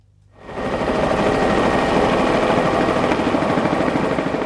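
A helicopter roars in loud after a brief quiet start, its rotor thumping in a fast, steady chop beneath a dense engine whine that holds without letting up.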